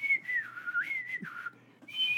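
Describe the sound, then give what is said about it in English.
A person imitates a man's nervous whistling, in a wandering, tuneless way, the pitch sliding up and down in short uneven phrases with brief gaps, no recognizable melody. “there's a guy in the same aisle, and he's whistling up a storm. No song.”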